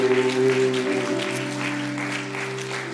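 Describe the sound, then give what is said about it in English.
An audience at a church service, likely the Kodesh Family Church in the Bronx, New York, claps for Jesus in a steady, dense wash of applause that fills the room, with sustained musical tones humming underneath throughout. “Clap your hands together for Jesus.”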